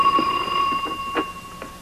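household object, telephone ringing

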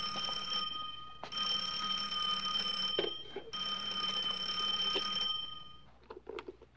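signal or alarm, shoe phone ringing

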